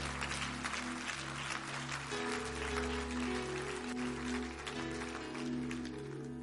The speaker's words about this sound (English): Somebody stand on your feet right now. Let's clap our hands to God. Let's thank Him for His grace and His mercy.